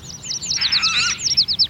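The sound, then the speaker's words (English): Birds chirp in a quick, steady series of high, bright notes, swelling into a busier overlapping flurry in the middle before settling back into rapid repeated tweets. “They're birds, Billy. Birds! Tweet, tweet, tweet, tweet!”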